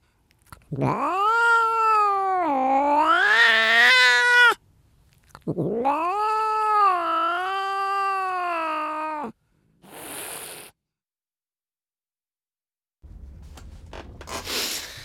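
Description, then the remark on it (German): A small cat lets out two long, loud, wavering yowls, rising and sliding in pitch, followed by a brief rustle and a soft, noisy shuffling sound. “jetzt nehme ich die kleine Katze auf”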